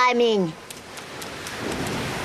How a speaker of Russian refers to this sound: Слышу шум волн.